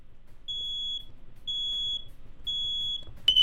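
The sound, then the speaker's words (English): A carbon monoxide detector alarm beeps three times in a steady rhythm, each high, piercing tone lasting about half a second, loud, followed by a brief sharper burst at the end. “Warning. Carbon monoxide detected. You got carbon monoxide. Leave the area immediately.”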